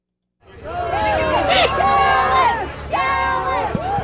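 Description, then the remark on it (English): A large crowd of onlookers in Nome, Alaska, cheers and shouts continuously as the winning musher of the 40th Iditarod leads his dog team down the finish chute. Many overlapping voices rise into sustained whoops, loud, with a brief dip before the cheering swells again. “25-year-old Dallas Seavey led his dog team down the chute to cheering crowds of onlookers in Nome.”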